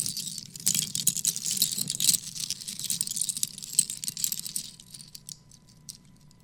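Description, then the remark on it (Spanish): Collected seashells rattle and clatter together in a dense burst of bright, crisp clicks for several seconds, then thin out into a few scattered taps before fading. “Mira, junté caracoles.”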